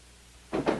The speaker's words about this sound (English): As Matt walks away, Margaret gently closes the door and leans her forehead against it.